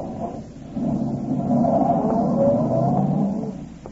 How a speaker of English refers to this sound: Cooper walked to his car, got in, stepped on the starter, and drove off.